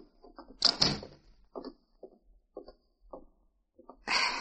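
A door in a sheriff's office swings shut with a loud thud and sharp latch click, followed by a series of soft bumps and shuffling sounds, then a louder rustling burst at the end.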